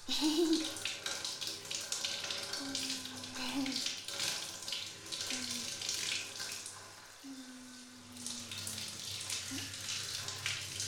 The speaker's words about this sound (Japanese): さあ、泡を流してさっぱりしちゃおう。あ、ちゃんと目つむってないと泡が入るよ。